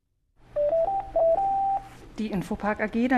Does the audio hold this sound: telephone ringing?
yes